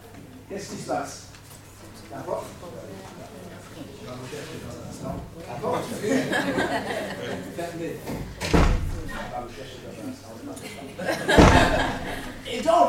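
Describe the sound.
A door shuts with a sharp, heavy thud, and a second loud slam follows a few seconds later, while people talk and chuckle throughout.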